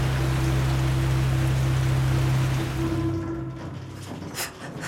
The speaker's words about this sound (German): Der Regen fegte und klatschte und der stärker werdende Wind trieb ihn vor sich her. Die schwarze Scheune war fast völlig verdunkelt vom Regen.